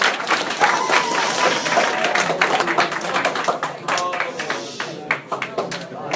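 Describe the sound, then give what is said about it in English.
Steady audience applause at a yeshiva gathering before Passover fills the whole stretch, a dense wash of many hands clapping at fairly even loudness, with scattered voices murmuring underneath and the clapping thinning slightly toward the end. “That's one way to guarantee a good applause.”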